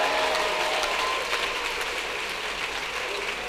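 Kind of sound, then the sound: crowd, audience clapping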